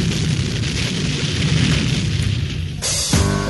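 A loud, rumbling dynamite blast sound effect in a jingle for radio station WOR-FM, New York, with a sustained roar of debris and low-end boom, ending in a sharp burst and a quick descending sweep near the end.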